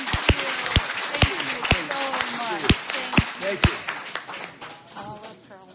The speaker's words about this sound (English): All right. Give him another welcome round of applause.